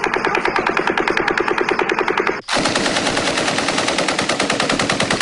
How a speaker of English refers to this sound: And you hear the same cadence, two different firearms. One that is a full auto, smaller firearm. Another that is clearly a light machine gun, belt fed.